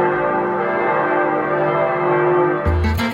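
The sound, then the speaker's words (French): Church bells ring loudly from the Romanesque bell tower of Pisa Cathedral on the Piazza del Duomo in Pisa, Italy, their overlapping tones humming and sustaining throughout, with a fresh, clanging round of strikes breaking in near the end. No voices are heard. “En termes d'architecture, c'est un campanile de style roman destiné à recevoir les cloches de la cathédrale Notre-Dame de l'Assomption de Pise.”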